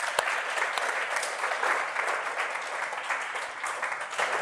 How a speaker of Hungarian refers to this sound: Úgyhogy minden pásztornak egy nagy tapsot itt az elején.